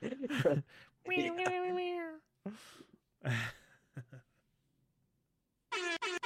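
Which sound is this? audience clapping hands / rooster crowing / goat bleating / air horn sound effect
air horn sound effect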